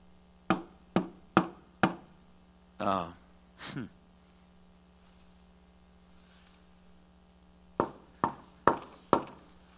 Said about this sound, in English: Anybody know what that's all about? Sounds like somebody knocking, doesn't it?